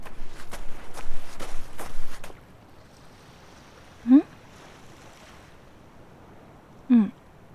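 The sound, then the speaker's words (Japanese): Soft surf washes onto a shore for a couple of seconds, then fades to a quiet seaside hush broken by two short, bird-like cries a few seconds apart. “ごめん、波の音でよく聞こえなかった。”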